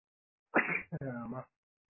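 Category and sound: human body sound, sneeze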